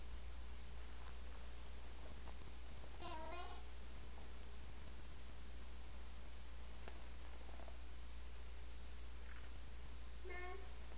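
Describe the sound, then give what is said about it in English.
A cat named Kix meows twice, once early and again near the end, with a few fainter mews between, over a steady low background hum. “Where's the kitty going? Say bye-bye, Kix. Bye-bye, kitty Kix.”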